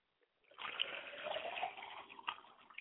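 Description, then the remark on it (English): Liquid is poured out as a libation to the east in a steady, splashing stream that runs for a couple of seconds, moderately loud, with no voices over it. “We pour libations to the east to bless you today, Father.”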